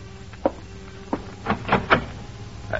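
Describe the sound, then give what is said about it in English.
Several knocks on an apartment door one evening: an isolated rap, another, then a quick cluster of three and a final one, over a low steady hum. No one speaks. “And an hour later, someone knocks on the door of your apartment.”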